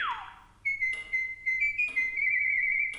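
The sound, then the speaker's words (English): A starling whistles its altered version of a Mozart melody: a quick falling slide, then a string of clear, high, steady notes with brief breaks, ending on one long held tone. The bird unslurs the quarter notes, adds a fermata at the end of the first measure and sharps the two G's of the second measure. No talking. “The little songbird unslurred the quarter notes and added a dramatic fermata at the end of the first full measure.”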